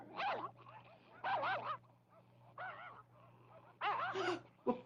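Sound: wolves howling and growling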